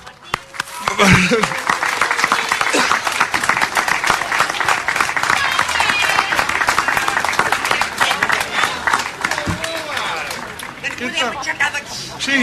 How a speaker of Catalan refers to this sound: Demano un fort aplaudiment, sisplau.